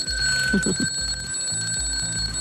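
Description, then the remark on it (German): Several old mechanical alarm clocks of various kinds and ages ring at once in a clock museum in Lindenau, a dense, continuous metallic jangle with steady high tones and a rattling low pulse underneath, loud throughout. “Sie sehen ja, es sind besonders alte Wecker dabei mit dem typischen Klingeln.”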